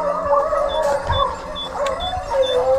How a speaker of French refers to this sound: Soudain, on entend un aboi formidable.